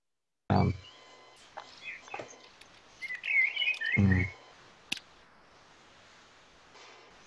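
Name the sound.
bird singing outdoors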